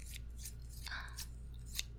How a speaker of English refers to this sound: I could have purposely put in a trigger that you'd get hard every time you heard the sound of scissors closing.